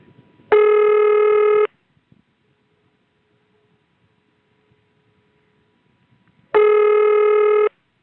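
Two long, steady ringback tones, each lasting about a second, separated by several seconds of near silence; a clean, harmonic-rich electronic ring signal from a telephone exchange ringing machine, as cleaned up in 1977.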